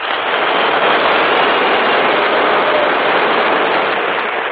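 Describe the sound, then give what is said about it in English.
A large audience at Aberdeen applauds loudly, a dense, steady wash of clapping that holds at the same level for several seconds, with no voices heard over it. “I think that applause was meant for”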